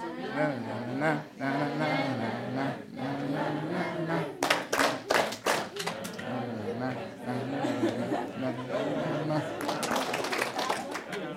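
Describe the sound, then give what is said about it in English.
A group doing the chicken dance claps together in a quick rhythmic burst of four sharp claps, then again later, while voices talk and chatter throughout. “So, 1, 2, 3, 1, 2, 3, 1, 2, and I clap 4 times.”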